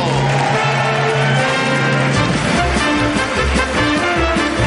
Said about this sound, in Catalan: Un fort aplaudiment per l'Oriol de Balanzó!